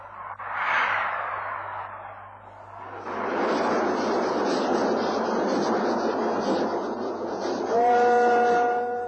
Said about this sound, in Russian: Слышите? Этот поезд мчится по Чарской долине, к Кудаканскому горно-обогатительному комплексу. Будущий поезд мчится к будущему гиганту цветной металлургии по будущей магистрали.